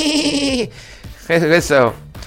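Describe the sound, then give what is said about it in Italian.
A man's voice mimics a sheep, giving two quavering, nasal bleats: one at the start, then a louder, wavering one after a short pause, each clear. “Quando faccio la pecora, so. Voi sapete chi imito quando faccio la pecora.”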